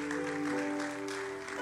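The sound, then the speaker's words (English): A crowd claps steadily for the whole moment for people coming forward to the speaker at a prayer gathering, a dense, even patter of many hands, with a sustained low musical tone humming underneath. “Oh, clap for them as they are coming.”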